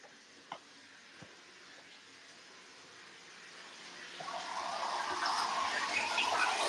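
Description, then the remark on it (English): Water begins pouring into a bathtub, starting quietly and swelling into a steady, loud rushing hiss, with a couple of faint clicks early on before the flow builds. “The bathtub is running water.”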